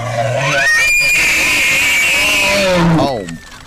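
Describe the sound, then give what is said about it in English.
A bull elk's bugling mating call, made before it approaches the cows: one loud call that climbs from a low grunt into a long, piercing, high whistle, holds for about two seconds, then slides down and breaks off. “And right before it approaches the cows, which are the female of the species, to be, make love, they do something called bugling. And this is how they show their prowess. This is a horrifying noise.”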